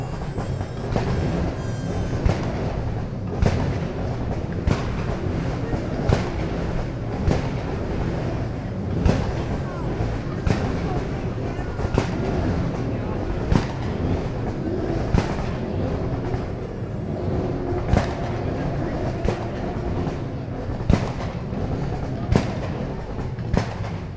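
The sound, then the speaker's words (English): Supercar engines at a supercar display, including an Aston Martin V12, roar together in a loud, steady, dense rumble, punctuated by sharp cracks or pops roughly every second, with no clear pauses throughout. “Right then, without any further ado, let's hear all of the cars one last time.”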